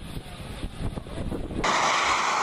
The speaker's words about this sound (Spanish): Estos son aviones de la China comunista, la República Popular China, rodeando, digamos, el espacio aéreo de la República de China, que es Taiwán.